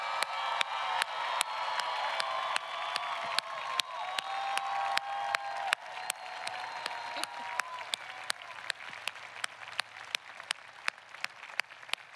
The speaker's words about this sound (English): I'm lucky enough to have my good person, my grandma, here with us today. Let's give her and all of the good people in our lives a big round of applause.